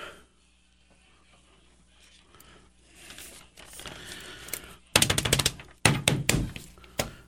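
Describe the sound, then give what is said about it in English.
Someone banging on drums: after a quiet, rustling start, a few loud, sharp hits burst out in the last couple of seconds, uneven and clattery, with no talking. “You know, banging on the drums, I think it's good for you.”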